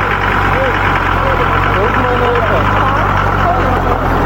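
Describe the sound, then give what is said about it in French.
The engine of a 10-ton truck idles steadily at the entrance of the commune of Orodara while its driver and his apprentice check its condition, a continuous low rumble with no revving, with faint voices murmuring in the background. “vérifie l'état de son camion de 10 tonnes avec l'aide de son apprenti.”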